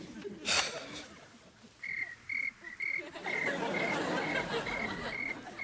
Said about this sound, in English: Crickets? It's a tape. Sounds of the trailer park. It helps me sleep. It's actually kind of soothing.